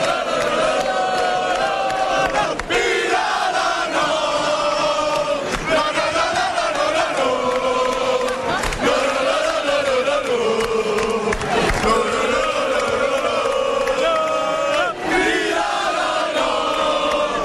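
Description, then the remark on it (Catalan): A large crowd, the castellers' colla in Vilafranca, cheers and shouts together in a loud, sustained roar, answering the town's children greeting them from a balcony after their effort, with voices rising and falling in overlapping waves and a few brief sharp accents, no single voice standing out. “Per cert, que els hi dediquen a tota la canalla, tenim a tota la canalla vilafranquina que estan aquí en el balcó saludant a tota la colla i com tota la colla doncs els hi ha respost després d'aquest esforç.”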